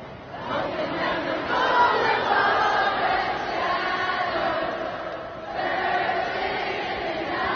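A huge concert crowd in Houston sings in unison with no band or instruments after an electrical fire near the stage cut the power and sound. The massed voices form a loud, steady roar of melody that dips briefly near the end before swelling back up.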